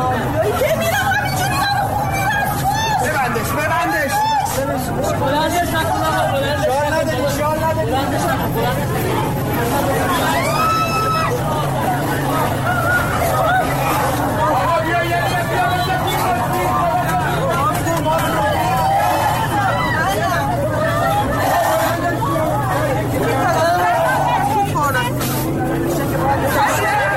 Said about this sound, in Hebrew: כאן נשמעים קולות זעקה מהפגנה שנערכה במוצאי השבת האחרונה, בה נפצעו אנשים מירי של אש חיה.